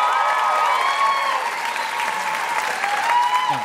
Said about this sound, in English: Kelly won the applause contest there.